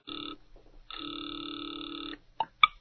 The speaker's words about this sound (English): He has just dialed a number. Now he waits, the ringing of a distant phone in his ears.